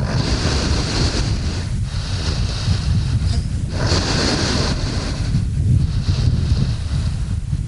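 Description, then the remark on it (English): Slow, heavy breaths of a sedated polar bear rush in and out about an inch from the microphone, a rhythmic whooshing about every two seconds over a steady bed of wind noise, the bear resting on slushy sea ice in the Chukchi Sea, 100 miles from land. “It's not every day you find yourself holding a microphone an inch from a polar bear's snout.”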